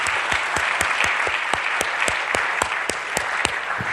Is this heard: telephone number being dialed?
no